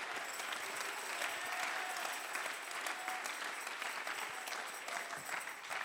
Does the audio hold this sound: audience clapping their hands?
yes